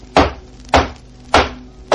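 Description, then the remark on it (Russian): Four loud, hollow knocks on a wooden door, struck slowly at a steady pace of roughly one every half second, with quiet pauses between and no voices. “Опять стучат.”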